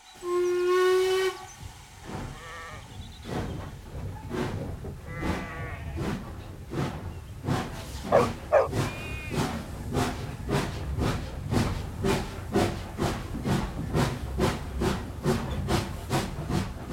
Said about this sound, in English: The train puffs along. It stops at the station.